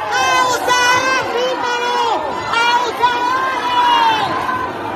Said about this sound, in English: This Facebook post from June shows a crowd shouting down a policeman who's grabbed a man by the neck in downtown Havana